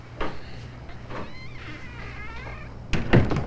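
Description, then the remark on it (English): A door swings with a faint creak and shuts with a solid thud near the end, after a couple of softer knocks and rustles, as a man enters a master bedroom and closes the door behind him. “He stands in the doorway for a moment, then closes the door behind him.”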